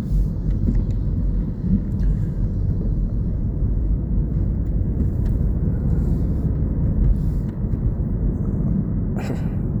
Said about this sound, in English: This traffic is just ridiculous. These people are crazy. These people are crazy. I'm driving down the road and I got hindrances like you ain't never seen.